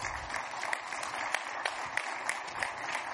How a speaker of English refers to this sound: And really, we're clapping for the great board that has allowed me to enter into this relationship with them.